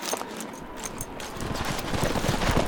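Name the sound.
horses' hooves clip-clopping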